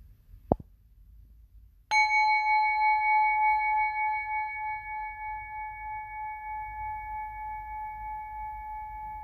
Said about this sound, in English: And when you hear the end of the gong, slowly open your eyes.